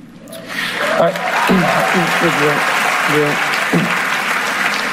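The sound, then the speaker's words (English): After a brief pause, a large audience breaks into sustained applause, dense clapping at steady loudness, with a few faint voices calling out beneath it. “And the crowd kind of pauses, and then they start clapping.”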